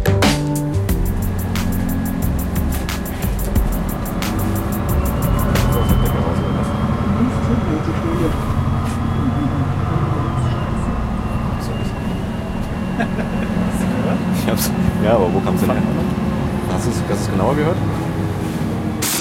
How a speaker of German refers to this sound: Schöne Aktion, ehrlich gesagt, immer wieder mit dem Bus zu fahren, um den Sound zu bekommen.